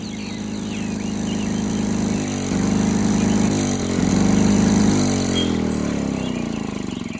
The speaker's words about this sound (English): Everyone, pardon my noisy lawnmower.